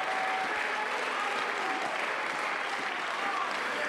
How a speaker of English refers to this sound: Let's clap our hands. Let's lift our voice. Let's magnify him.